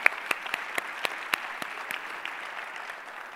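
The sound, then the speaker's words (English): An audience applauds the Serve Tuscaloosa director, a dense wash of many hands clapping with a few sharper individual claps standing out early on, then gradually thinning and fading over a few seconds. No one speaks. “And will you give her a round of applause for being our Serve Tuscaloosa director?”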